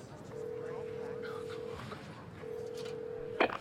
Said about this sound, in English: While there, after a particularly emotional and destructive stay at an elegant hotel, Patrick phones overseas to check in with a friend.